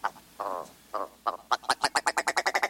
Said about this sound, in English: With its rubbery-sounding rattles and clownish red eyebrows, the ptarmigan is quite the standout northern bird. And it's particularly well-adapted to wintertime in the snowy realms it calls home.